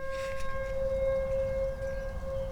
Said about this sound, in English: I've got my window open here. Let's point the microphone out the window. Yes, those are tornado sirens. Are we having some heavy weather? I think we are.